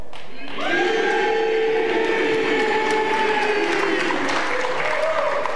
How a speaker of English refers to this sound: I mean, you've been, you know, gone for a while, and you, as you well know, no matter who the tight end is, they scream Heath.